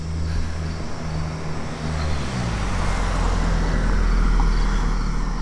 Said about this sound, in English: And then once we find our 3 bun buns, here comes a car.